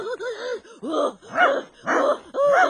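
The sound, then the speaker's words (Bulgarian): A dog barks and yips repeatedly in a quick, uneven series of sharp, high-pitched bursts, fairly loud, with no talking over it. “Лай, лай, лай, не ме е страх отгоре.”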